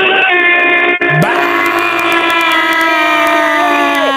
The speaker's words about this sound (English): Third down. All right, Red Raiders are yelling again. Third down. I'm going to yell with them.